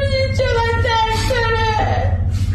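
A patient moans in pain, a close, continuous string of drawn-out, high whimpering wails rising and falling over a steady low hum, with no other talking.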